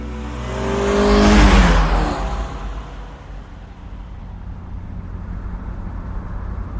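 A new SUV's engine revs up and swells loudly for a moment, then settles into a steady, low rumble as it keeps running. No one speaks.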